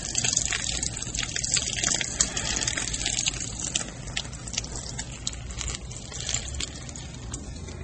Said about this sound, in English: Then lift the can ever so slowly. Okay. Just enough so I can tip it freely to keep the pouring rate continuous.